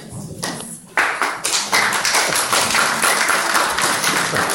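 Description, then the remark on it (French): An audience applauds a preacher at the end of his sermon, breaking into steady applause, many hands clapping in a dense, bright patter that swells after a soft start and keeps going without pause. “Quand j'ai prêché cette prédication à Don Marie, ils m'ont applaudi aussi.”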